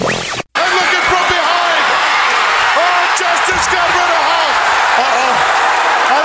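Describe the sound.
A big wrestling arena crowd roars loudly and continuously, a dense wall of cheering that fills the whole stretch after a brief cut near the start, as Sid Justice eliminates Hulk Hogan, with commentators Gorilla Monsoon and Bobby Heenan speaking over it.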